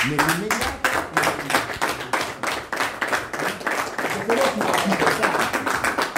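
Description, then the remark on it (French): A group of shepherds applauds the announcement that everything will continue as before, a dense, brisk patter of many hands clapping steadily for about six seconds, with a few voices faintly mixed into the applause. “C'est les bergers qui ont applaudi cette bonne nouvelle, de dire tout continue comme avant.”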